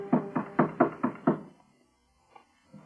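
Six firm, evenly spaced knocks on a door, fairly loud, followed by near silence with a couple of faint, soft sounds.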